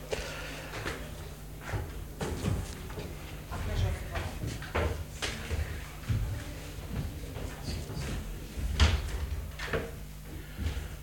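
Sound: door being closed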